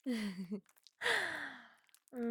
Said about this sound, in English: You sound so pretty panting for me, sweetheart.